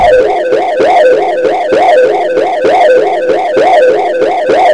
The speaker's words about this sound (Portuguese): disparar os alarmes.